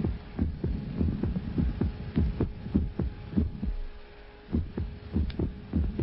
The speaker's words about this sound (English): When I go to bed at night, I keep myself awake listening to the silence that replaces every eighth or ninth beat of my heart.